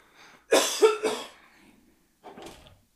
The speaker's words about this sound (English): That was pretty bad. Hacking and slurping beer.